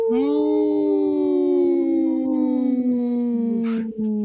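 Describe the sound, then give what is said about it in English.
One long, unbroken wolf howl, loud, holding a steady tone for several seconds before sliding slowly downward. No voices or other sounds. “brought to you by Howling for Wolves, protecting wolves for future generations. Howl!”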